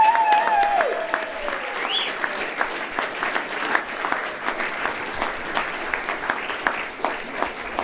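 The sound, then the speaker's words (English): An audience at a live bluegrass show claps steadily for several seconds for a band, a dense, continuous patter of many hands. Early on, a shrill whistle rises over the applause, and a few cheers come through. “how about a nice round of applause for …?”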